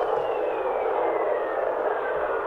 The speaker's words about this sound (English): Now, when our instrument, we got data back, we heard whistlers. Kind of whistling tones. I don't know if you'll be able to hear this or not. They're very weak, but I'll try.